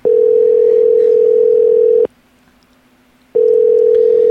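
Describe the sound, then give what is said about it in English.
A landline busy signal, heard because the called line is in use on another call: a loud, steady mid-pitched tone sounds for about two seconds, cuts off briefly, then starts again, with no voices. “See, they're on a phone call right now.”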